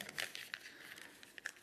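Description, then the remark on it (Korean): Quiet papery crinkling and a few crisp rustles as a sheet of paper is folded and handled, with several brief sharp crackles spread over a second or two. “예를 들어 종이가 있으면 이 종이가 잘 꺾여져요, 안 꺾여져요? 잘 꺾여지죠?”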